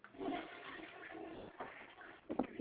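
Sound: toilet flushing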